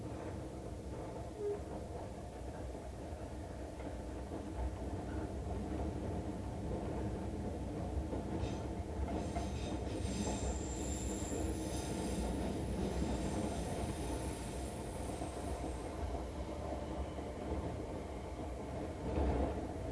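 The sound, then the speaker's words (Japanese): An Osaka Municipal Subway train rumbles steadily along its rails as it approaches Fuminosato station, a dense low roar, with high metallic wheel squeals rising briefly midway through before the running noise continues. “本日は大阪市営地下鉄をご利用いただきましてありがとうございました。”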